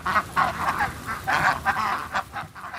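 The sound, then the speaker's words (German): A flock of Indian runner ducks, among hundreds that patrol vineyards eating snails and pest insects, quacks in a rapid, overlapping chorus of nasal calls, loud, with bursts coming in quick irregular succession and no talking. “Hier patrouillieren hunderte Laufenten durch die Weinberge, fressen dabei Schnecken und Schadinsekten”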